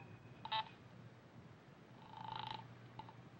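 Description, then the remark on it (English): A call from a pay phone booth in Kramer's florist shop on 6th Street being put through by the operator to the police: a brief electronic beep, a longer buzzing tone about half a second long, then a short final blip, all fairly quiet over a low steady hum. “Operator, get me the police.”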